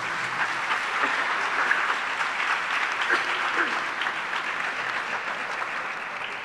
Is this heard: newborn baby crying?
no